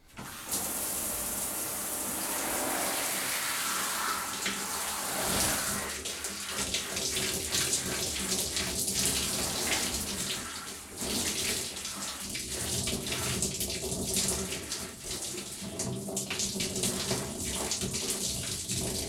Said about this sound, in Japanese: もう少し泡を落としますので、少々お待ちください。